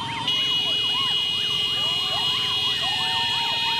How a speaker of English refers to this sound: It begins early in the morning. A crowd of motorcyclists pierce the air with loud whistles and blaring horns.